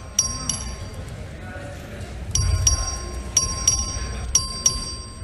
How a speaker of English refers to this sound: Question occurs on passage to engrossment of House Bill 4. This is a record vote. Clerk, ring the bell.